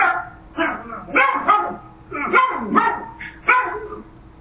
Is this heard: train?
no